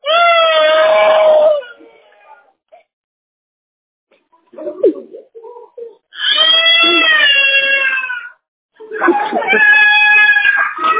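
A child cries in three loud, drawn-out wailing bursts, separated by brief pauses with a few softer whimpers between them.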